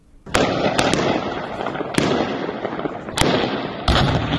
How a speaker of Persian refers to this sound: صداهای شلیک های متواتر گلوله از شهر زرنج مرکز ولایت نیمروز، جایی که گفته می شود صبح امروز گواه درگیری میان نیروهای امنیتی طالبان و اعضای شاخه خراسان گروه داعش بوده است.